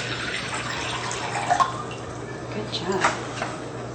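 Water is poured steadily into a pot along with juice, with the heater turned on high, for making konnyaku jelly: a continuous splashing rush with a couple of brief metallic clinks midway, over a low constant hum.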